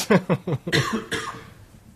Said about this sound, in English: But then you got kennel cough. But then I got kennel cough.